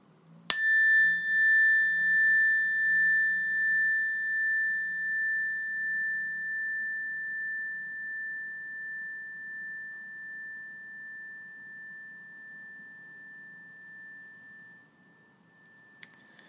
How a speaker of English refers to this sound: Again, when you hear the sound of the bell, just bring your awareness towards your respiration, your breathing, and then wait for further instructions.